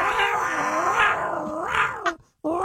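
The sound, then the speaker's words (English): A loud, drawn-out yowl like a cat in heat, its pitch wavering up and down in long moaning swells, cutting off briefly near the end before starting again. “That's a horny cat.”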